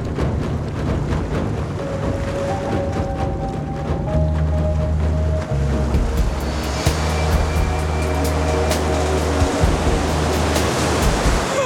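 Steady wash of ocean water around a boat, with a low droning hum underneath and faint tonal whines; no voices, the rushing sound swells slightly louder partway through.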